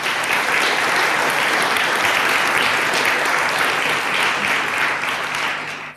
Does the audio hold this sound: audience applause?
yes